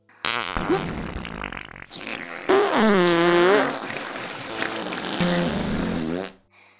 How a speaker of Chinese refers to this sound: 所有的臭鼬娘都转过了身子，把屁股对准了我们，我们四周都是臭鼬娘的大屁股。 姐妹们，让他们感受一下你们的陈年佳酿吧。放屁。